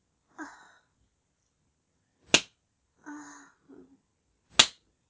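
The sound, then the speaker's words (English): Two sharp hand slaps on skin, a couple of seconds apart, ring out clearly, with short breathy vocal sounds like sighs or moans before and between them. “I'll just take an ass play break.”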